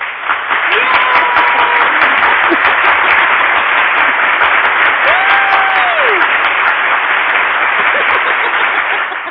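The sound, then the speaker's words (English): Sustained audience applause on a show, a loud steady roar of many hands clapping for the full stretch as the audience stands to applaud a guest's initiation story, with a few faint voices rising briefly through the noise. “Yeah, that's this is the show where you get applause for doing courageous things.”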